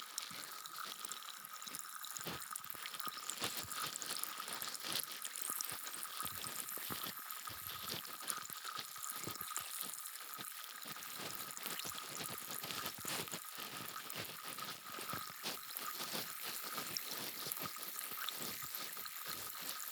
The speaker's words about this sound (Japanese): 炭酸綿棒で耳の中を自由自在に掃除するのも面白いですね。なんかこれハマりそうかも。